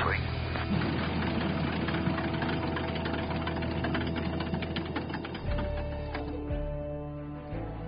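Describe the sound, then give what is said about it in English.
A steady drone from a plane's number two engine, a rough, mechanical hum idling continuously, its low rumble shifting and easing slightly toward the end as tonal whines ring over it. “Engine number two is ready to go.”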